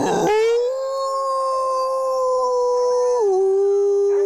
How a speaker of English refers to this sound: It's also home to 90 different mammals, including Canis lupus, the grey wolf.